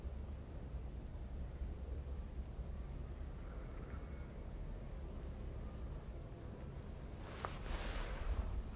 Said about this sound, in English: Aeroplane, an old aeroplane somewhere in the background, sort of buzzing, droning.